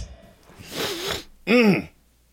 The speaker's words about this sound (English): Oh, you sniffling there? What are you? I'm trying to lube my throat.